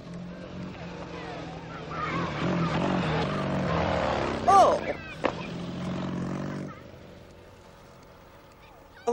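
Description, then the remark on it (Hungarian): A motorcycle roars past, its engine loud and rasping for several seconds before cutting away abruptly and leaving a quieter background, with voices briefly audible. “Ki kellene tiltani ezt a motorbiciklit?”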